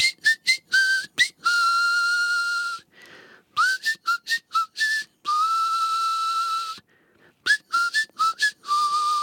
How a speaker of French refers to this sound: Quelle est l'astuce ? Je siffle entre mes dents de oui, devant.